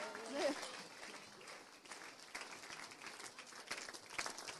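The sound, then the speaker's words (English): An audience claps together in a steady, dense patter of applause that carries on for several seconds, with faint voices mixed in. “Clap yourselves and one another.”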